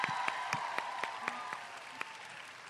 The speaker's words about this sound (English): Can we give them a round of applause before the night starts?